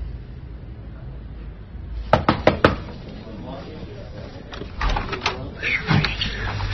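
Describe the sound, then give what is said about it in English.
Four quick, sharp knocks rap on an office door in a tight rhythm over a low hum, followed by softer scattered bumps and rustling. “Sorry, I didn't hear your knock.”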